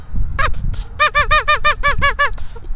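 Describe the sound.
A duck call is blown in a quick run of about ten nasal, quacking blasts, each with a bright harmonic stack and a downward bend, over a low rumbling background.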